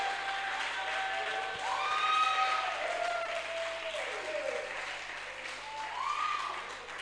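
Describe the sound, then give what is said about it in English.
An audience claps steadily and densely for several seconds while scattered voices shout and whoop over the applause, clapping and shouting to God's glory, swelling and easing slightly as the cheering rises and falls. “If you know your prayer has been heard and your mindset is being renewed, clap the loudest and shout the biggest to God's glory.”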